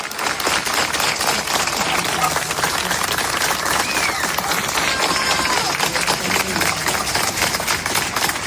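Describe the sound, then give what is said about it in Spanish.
Sustained, dense applause from a large crowd, an ovation honouring a retiring neighbourhood pharmacist of the Hortaleza district of Madrid, a steady wash of many hands clapping at an even loudness throughout, with faint voices mixed into the ovation. “porque la historia de un homenaje, bueno, en realidad la historia de un farmacéutico que ha sido homenajeado, y como todo buen homenaje, pues este empieza con aplausos.”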